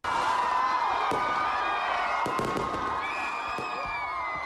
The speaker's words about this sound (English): The sound of fireworks rippled through the nighttime sky as Ugandans ushered in the new year in the Ugandan capital, Kampala.